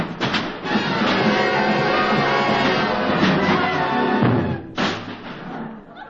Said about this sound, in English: If you don't shut up, wise guy, I'll bang you over the head with every instrument in my band. Oh, yeah? Let's see you try it.